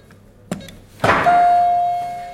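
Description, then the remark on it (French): An apartment door is opened: a sharp latch click, then a heavier thunk a moment later, followed by a steady electronic tone that lingers and slowly fades. No one speaks. “La porte est ouverte.”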